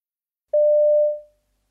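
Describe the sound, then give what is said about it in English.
A single steady electronic telephone ringing tone sounds for just under a second as a boy phones a friend, clear, then fades out, with no voices around it. “You overhear a boy phoning a friend.”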